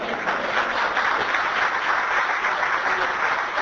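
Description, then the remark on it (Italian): Steady audience applause, a dense wash of many hands clapping at an even, fairly loud level throughout, with no voices rising above it. “Beh, per meritare un altro applauso, io penso.”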